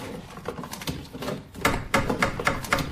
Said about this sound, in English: Oh, what idiots knocking on the door when I've got me head in a cupboard. Yes, I'm coming. Dear me, some people just think all they have to do is knock at your door and you go down and open it.